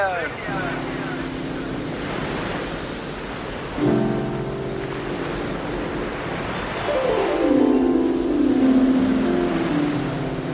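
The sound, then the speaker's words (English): Steady rushing surf washes continuously, swelling louder toward the end, while low droning tones hum over it and one slides downward in pitch. “The sea, the beach and coastline hold a special place in the human imagination.”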